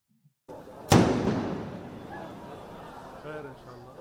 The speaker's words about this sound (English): Lebanese health ministry, at least 9 dead, 300 injured in walkie-talkie explosions.